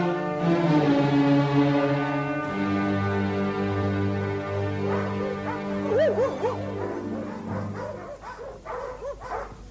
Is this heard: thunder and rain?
no